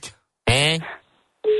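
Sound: telephone call ringing tone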